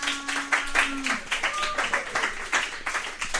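A crowd in a bar claps steadily for a few seconds, dense and fairly close, with a low drawn-out vocal tone sounding over the applause at the start.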